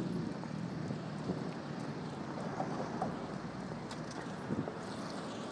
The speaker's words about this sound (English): You can hear the traffic slowing down for the roundabout at the end. This is where Vauxhall Bridge meets Horseferry Road and Millbank. No, it's not Vauxhall Bridge, it's Lambeth Bridge even.